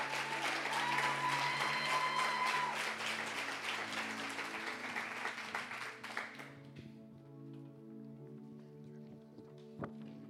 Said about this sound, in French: Je t'invite ici, on peut l'applaudir.